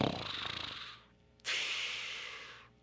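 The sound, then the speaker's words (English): A rhinoceros napping in the grasslands past the jungle snores loudly: a rattling, rumbling inhale, a brief pause, then a long breathy whoosh of an exhale. No one speaks. “There she found Rhinoceros taking a nap. Rhino was snoring.”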